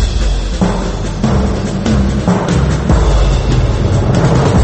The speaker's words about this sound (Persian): توجه، علامتی که همتون میشنوید اعلام خطر یا وضعیت قرمز است.